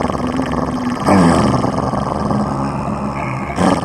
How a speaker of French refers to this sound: Le chien jaune grogna encore plus fort.